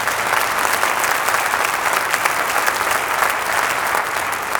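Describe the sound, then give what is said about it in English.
A crowd applauds steadily, a dense wash of many hands clapping at once, loud and sustained from start to finish with no talking over it. “Yeah, let's clap.”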